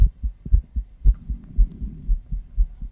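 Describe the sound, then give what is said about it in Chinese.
A steady heartbeat thumps in deep, muffled pairs, roughly twice a second, fairly loud with a faint low hum underneath and no voices. “有心跳的你就要仔细听一下。”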